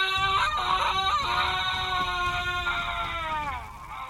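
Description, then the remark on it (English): A man screams in pain as a wound in his metal flesh is mended and melts back together, one long, loud, strained cry held for about four seconds that wavers and sags in pitch toward the end, with a low rumble underneath. “The sound of his metal flesh melting itself back together is broken only by Warden's painful screams.”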